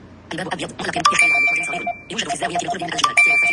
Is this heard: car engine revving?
no